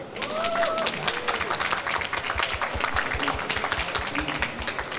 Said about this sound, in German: Und mit der gesamten Frankfurter Buchmesse, einem fantastischen Publikum, das Sie jetzt hören können, das ihr hören könnt, wenn ihr diesen Podcast erst nach der Aufnahme einschaltet. Das Publikum, hallo.